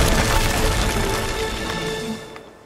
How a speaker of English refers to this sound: A branch from the tree has crashed into the roof of the house. It's sticking into the living room.